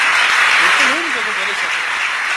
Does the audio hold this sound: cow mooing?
no